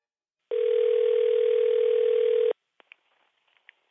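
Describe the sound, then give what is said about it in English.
A loud, steady telephone tone hums for about two seconds, like a dial tone or ring on the line, then cuts off, leaving a few faint clicks and line noise, as a call is placed to Alexander Global. “And for that, I need to get someone else on the phone.”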